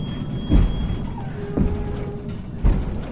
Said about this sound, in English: Gotta love the brake sounds without an engine.